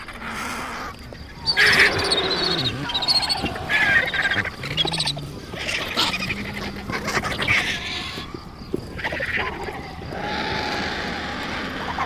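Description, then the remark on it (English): Vultures squabble and fight for feeding spots over a carcass in a constant, overlapping din of harsh hisses, rasping squawks and low grunts, loud and chaotic throughout, with brief surges and no pauses; two black vultures arrive to join the group. “This deafening shouting increases with the arrival of two black vultures.”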